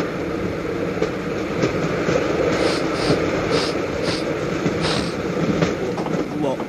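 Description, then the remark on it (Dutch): A train rumbles steadily along the rails, with a continuous low roar and repeated rhythmic clacks from the wheels, fairly loud throughout. “Kortom, Tony Klaproos was in de trein gestapt, angstig als hij was om ook gewurgd te worden.”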